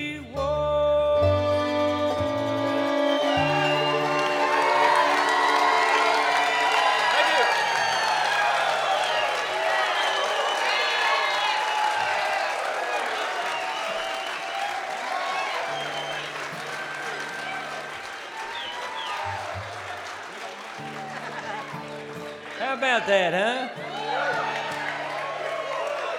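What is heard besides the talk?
audience applause and cheering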